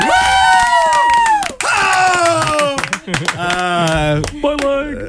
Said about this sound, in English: This is the last show. Applause, please. Everyone start clapping. Thank you.